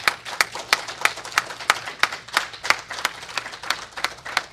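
A roomful of people applauds a family, with sharp claps falling into a steady, even rhythm over a denser wash of scattered clapping. Moderately loud and sustained throughout, with no talking.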